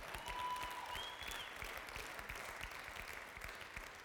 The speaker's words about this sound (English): I thank God for the practice that you have here in this church. Whether you know it or not, this is a good church. Go ahead, clap.